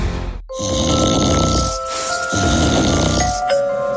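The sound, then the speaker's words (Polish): A man, a woman's husband, snores loudly in two long, rattling, throaty breaths, with a steady high tone ringing underneath; no one speaks. “Dochodzą mnie słuchy, że pani mąż chrapie jak niedźwiedź.”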